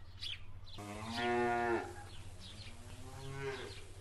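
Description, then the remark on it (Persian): A cow moos twice, a long loud low bellow followed by a shorter, softer moo, heard clearly with a steady low hum in the background. “به هر کس دروغ بگویم به گاو خوبی مثل تو دروغ نمیگویم.”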